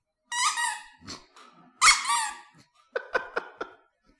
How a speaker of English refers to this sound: What is this? It's a dog toy.